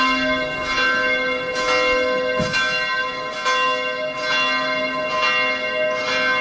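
Church bells ring steadily with repeated strikes about every second, their rich overlapping tones sustaining and blending into a continuous loud peal, with no voices present.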